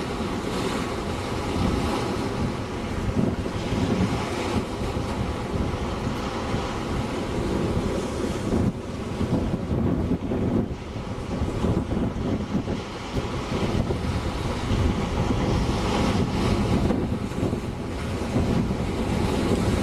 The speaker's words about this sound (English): Oh, it's really gusty now. Really a good gust. You see all the white foam from the wave action.